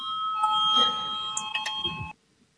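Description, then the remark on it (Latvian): A parliamentary voting bell rings steadily and continuously for about two seconds before a vote on a legal committee proposal, then cuts off abruptly, with a low murmur underneath. “Lūdzu, zvanu, balsosim par pirmo juridiskās komisijas priekšlikumu.”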